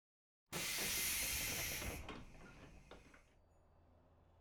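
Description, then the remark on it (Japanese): A sudden loud pneumatic hiss bursts out as a train door releases air, holding strong for about a second and a half before fading into a softer rumbling, clunking settle. “お礼したいので、ちょっと乗ってください。この電車乗りたかったんですよね。”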